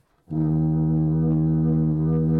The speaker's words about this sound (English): Here, which is actually not used as a drum, it is a drum, but it has a stick fastened to the drum head. So what we do We use a wet rag. We rub the stick.